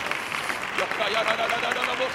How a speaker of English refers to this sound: Oh, somebody clap your hands and lift your voice in the house.